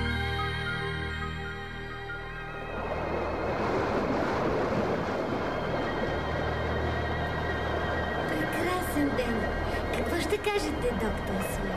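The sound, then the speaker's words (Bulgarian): Gentle, unusually calm sea waves wash steadily around a ship in a continuous, soft roar that swells in after a quieter opening, with a faint low hum running underneath. “Днес морето е необикновено спокойно.”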